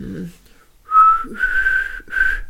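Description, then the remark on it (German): A person whistles a few wavering, breathy notes in three short bursts, fairly soft, with a brief low murmur just before. “Ja, aber immer noch Geräusche so Lieder pfeifen, sodass man sie auch klingt und nicht immer so, das war jetzt so mehr Pfeifen aus dem letzten Loch.”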